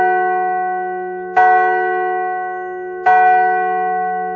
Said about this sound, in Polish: W pobliżu budynku stanął też dzwon Głos Nienarodzonych, w który mógł uderzyć każdy przechodzień.